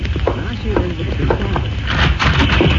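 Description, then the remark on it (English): Horses galloping, their rapid hoofbeats drumming steadily and fairly loud, with a thick layer of rumbling background noise on a muffled, narrow-sounding recording; the horses of the Cisco Kid and his partner arriving in the rain at an adobe house near the border of the United States and Mexico. “Yes, I hear them. Horses galloping.”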